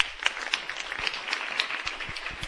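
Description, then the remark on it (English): An audience at the Good Morning Greater Jackson breakfast applauds Rick Walton, who has retired from hosting the show. Dense overlapping claps form a steady crackling wash, with a few sharper individual claps standing out, moderately loud and continuous. “And so we just want to recognize Rick with a round of applause.”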